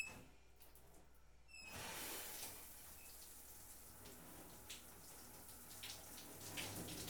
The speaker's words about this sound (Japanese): 一旦シャワーで体の泡流すね。